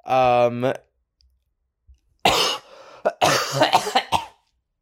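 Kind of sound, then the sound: human body sound, cough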